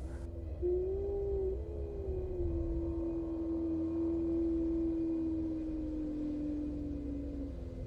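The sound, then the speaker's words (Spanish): A single loud, high-pitched, wavering howl, not a dog's, holds one eerie tone for several seconds and sinks slightly in pitch, over a steady low background rumble. No one speaks. “Eran los aullidos que Alejandro mencionó. Y claro que no eran los aullidos de un perro, pues por supuesto que los sabía distinguir.”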